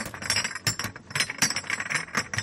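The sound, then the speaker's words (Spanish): Glass bottles crash and clink one after another as they tumble into a green glass recycling container, a dense, rattling cascade of sharp chinks and thuds, fairly loud, with no voices. “El año pasado, en 2021, los españoles depositaron en los contenedores verdes, te suena este sonidito, ¿verdad? Pues más de 884.000 toneladas de envases de vidrio, alcanzando así cifras similares a las de 2019.”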